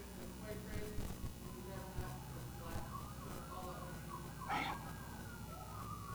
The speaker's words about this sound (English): Sometimes I feel like every time we get in church, there's sirens. Every single time. Every time.